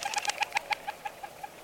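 A male white-winged dove calls from atop a saguaro cactus on a morning in southern Arizona, giving a quick, even run of about a dozen short, tonal notes that gradually soften toward the end, clear with no other sounds.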